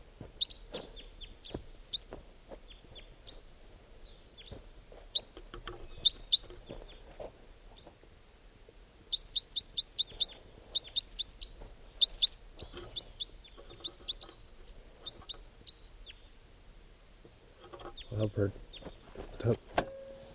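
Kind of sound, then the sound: bird, type 4 crossbill calls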